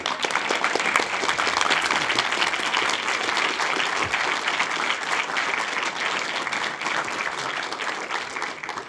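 Sustained audience applause, a dense, steady wash of many hands clapping at an even, loud level for several seconds with no voices standing out.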